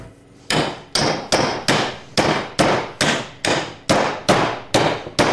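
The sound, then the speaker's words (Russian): A hammer bangs down on fish about eleven times in a quick, steady rhythm, each blow a loud, sharp whack with a short ringing tail, and no voices. “Берем молоток.”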